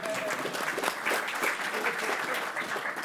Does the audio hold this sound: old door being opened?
no